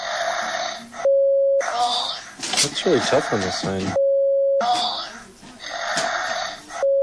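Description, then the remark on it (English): A Hatchimal toy, a Furby in an egg, makes synthetic, wheezy electronic breathing in long hissing pulses, separated by short steady beeping tones, fairly loud, with a person briefly speaking partway through. “But listen to the breathing, because that's what's creeping me out about this whole Hatchimal thing, which is a Furby and an egg.”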